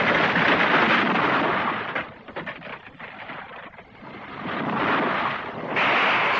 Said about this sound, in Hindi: हमारा जहाज एक टूटे हुए पत्ते की तरह इधर से उधर, उधर से इधर समुद्री लहरों के थपेड़े खाता हुआ अपने रास्ते से भटक कर एक जजीरे के करीब बहुत बड़ी चट्टान से जाकर टकरा गया।